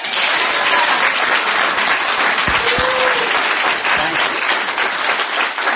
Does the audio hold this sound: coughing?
no